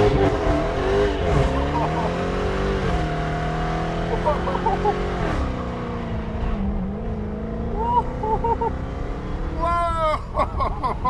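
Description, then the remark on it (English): A muscle car's engine roars and revs hard as it accelerates, its pitch climbing and dipping, with tires squealing and burning against the pavement. The sound is loud and continuous throughout. “You smell that? That's tire. It gave its life for our good time.”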